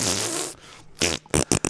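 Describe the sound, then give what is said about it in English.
A loud fart noise, likely blown by a voice: one long buzzing raspberry, then a pause and three or four short, punchy sputters in quick succession. “insert fart noise, dude.”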